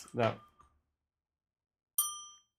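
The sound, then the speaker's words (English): A brief vocal sound, then a pause before a single bright bell ding rings out clearly and fades quickly over about half a second. “No, that should get the sad bell, which is... That's the same bell.”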